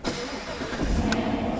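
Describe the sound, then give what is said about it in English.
A Chevy Camaro muscle car engine, at the 2024 New Hope Auto Show, cranks and catches, its deep, throaty rumble swelling into a loud, steady idle, with no voices. “This year celebrates the muscle car classic, the Chevy Camaro.”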